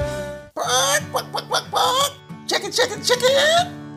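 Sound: chicken clucking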